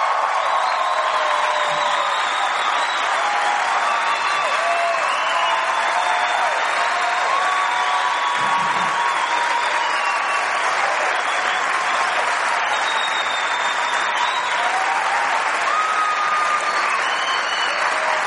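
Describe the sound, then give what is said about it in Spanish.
Sustained, loud applause from a large audience, a dense wash of clapping that holds steady for the whole stretch, with faint voices and occasional shouts mixed into the crowd noise; an audience applauding Pope Francis, recorded for the internet and other media. “Como estas palabras se están grabando precisamente para internet y para otros medios, yo quiero que quede grabado un aplauso de amor al Papa Francisco, por favor, que sea fuerte y que se escuche.”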